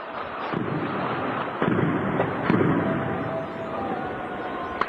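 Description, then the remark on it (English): Muffled booms and cracks of gunfire and explosions roll through a dense, noisy background, with faint distant shouting mixed into the din. “The haunting sound of gunfire and explosions in the Syrian city of Hama as people shout "God is great" from nearby buildings.”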